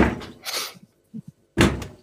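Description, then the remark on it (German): Heavy, dull kicks against a refrigerator: two booming thuds, a few softer low knocks, then one more loud bang, with no one speaking. “Tritt mal gegen den Kühlschrank, der hört dann auf.”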